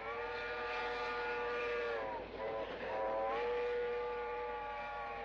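A departing train's steam whistle blows loud in one long, sustained chord, dipping briefly in pitch midway before sounding again over a steady rumble.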